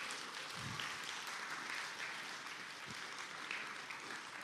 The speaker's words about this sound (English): Ladies and gentlemen, the creator of this game, this million-selling video pinball game, is here today. We are very pleased to have him here. Please give him a big applause.